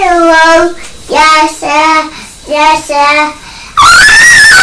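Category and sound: human body sound, child screaming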